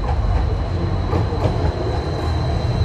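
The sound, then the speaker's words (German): A tram in the capital of Ethiopia, the first tram in sub-Saharan Africa, rolls along its rails with a steady low rumble and faint intermittent clacks, a thin high whine running through it, continuous with no voices. “Viele moderne Fassaden, die erste Straßenbahn in Subsahara-Afrika, sie täuschen einen Wohlstand vor, der einen Großteil der Bevölkerung nicht erreicht.”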